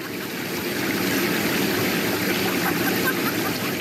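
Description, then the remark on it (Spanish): A waterfall in Risaralda, Colombia, where hot water springs from the mountain, pours in a steady, unbroken rush, its dense hiss and low roar holding an even loudness throughout, with no voices or other sounds. “Continuamos viajando por Colombia y con este sonido de cascadas también tenemos risas suaves, una sensación de vapor porque llegamos a Risaralda, donde el agua caliente brota de la montaña y el vapor acaricia la piel.”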